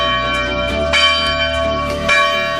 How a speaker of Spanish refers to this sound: Y escucharemos hoy la voz de la España vaciada que vuelve a clamar contra el olvido. Lo ha hecho en Madrid haciendo sonar las campanas frente al Congreso de los Diputados y en centenares de pueblos de toda España.